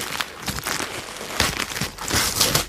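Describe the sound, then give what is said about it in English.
Gift wrap being torn open: continuous crinkly paper crumpling and ripping, with a few louder tearing bursts, busy and noisy throughout with no talking. “So, why don't you open this next one? It's got your name on it.”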